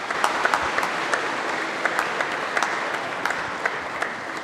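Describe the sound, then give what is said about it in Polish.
A steady wash of audience applause for a newly married couple after their church wedding, many hands clapping together in a dense, even patter with a few sharper claps standing out, sustained at moderate loudness throughout. “No, możemy zaklaskać, pewnie, że tak.”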